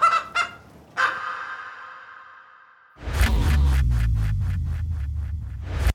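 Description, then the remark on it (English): Chickens clucking: two quick squawks and a long drawn-out call, followed by a busy flock with a steady run of rapid, repeated clucks over a noisy background. “It would definitely help these chickens.”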